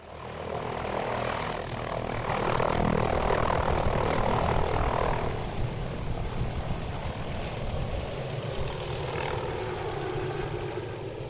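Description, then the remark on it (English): A helicopter flies in to Lake Graney at the western end of the Haast Range, its engine roar and chopping rotor thump steady and loud throughout, swelling slightly midway before settling back; no voices. “The big question hanging over us was whether the helicopter could make it in 2 days in a row.”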